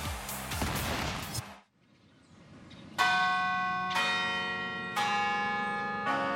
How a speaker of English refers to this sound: Every day and every 15 minutes from 7 a.m. to 9 p.m., the bells of the 120-foot-high campanile keep time for the University of Kansas. But on Saturdays at KU football games, those 53 bells also keep score.